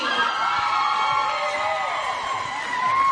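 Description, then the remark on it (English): A crowd of voices shouts together at the Skate Time roller rink in Akron, counting down just before a roller derby scrimmage begins, in a loud, steady chorus of overlapping cries and whoops that holds for a few seconds. “That's the countdown just before the scrimmage at Skate Time begins.”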